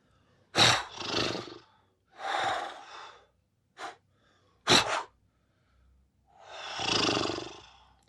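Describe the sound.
Puppeteers imitate a horse with a series of breathy snorts and blowing sounds: sharp, noisy bursts alternating with longer airy exhales, ending in a long rumbling blow, with no speech.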